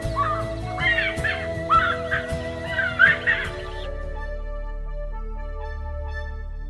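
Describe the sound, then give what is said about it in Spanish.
A raucous, monotonous call of an ipaca'a wood-rail rings out in harsh, cackling bursts for several seconds, then fades, leaving a faint steady hum underneath. “Por valles y collados se escucha, particularmente en la hora vesperal, el canto monótono y alborotado Ipaca'a.”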